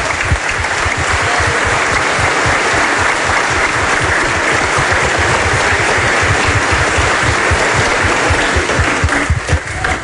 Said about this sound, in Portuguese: Viva Nossa Senhora! Viva! Mais forte, grande salva de palmas a Nossa Senhora, Mãe de Deus e Nossa.